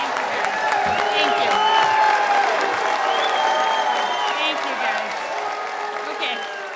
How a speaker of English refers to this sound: And immediately, the crowd erupts in both cheers and boos.